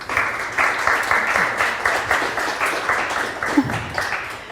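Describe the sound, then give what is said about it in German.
Sustained crowd applause welcoming the guests of a panel discussion held by the Digital Society (Digitale Gesellschaft), a steady dense patter of many hands clapping at an even loudness throughout, with no voices standing out. “begrüßt vielleicht unsere Gäste mit einem herzlichen Applaus.”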